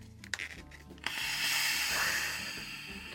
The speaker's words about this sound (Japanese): うわー、ガスが入りました。あ、何してるんだ、何、あ、抜いてるんですか、炭酸を。あ、ちょうどいい塩梅に。